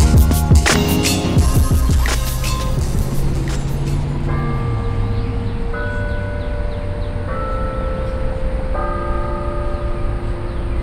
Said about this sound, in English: Hearing the sound of downtown Austin. This is at the corner of Cesar Chavez and Colorado Streets, right on the banks of Lady Bird Lake.